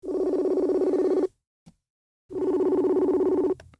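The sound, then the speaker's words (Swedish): An outgoing phone call to a mother: the ringback tone sounds twice, each a steady, buzzy burst of just over a second, separated by a short silence. It is clear and fairly loud, with no voices. “Eller ska jag ringa upp henne?”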